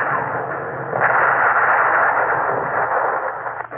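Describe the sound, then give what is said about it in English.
Heavy naval gunfire from battleships concentrating their fire on the Suvorov merges into a dense, continuous roar of rumbling blasts, swelling louder after the first second and holding steady before tapering slightly at the end. No one speaks. “Battleships concentrated their fire on the Suvorov.”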